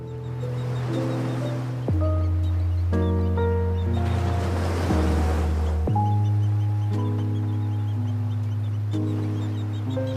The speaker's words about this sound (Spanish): Estamos escuchando el sonido del teaser de presentación de Ivanka y sugiere bienestar y quietud. Es un plano cenital y vemos cómo las olas rompen ininterrumpidamente en una playa desierta y de fondo se escucha esta melodía tranquila de piano.